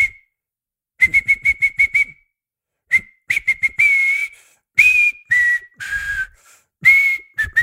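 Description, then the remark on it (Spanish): A person whistles the Superman film theme as a guessing game: a bold, brassy-style quick run of repeated short notes, then longer sustained and sliding tones, clear with brief pauses and no talking. “Te esta voy a como es muy fácil, la voy a silbar.”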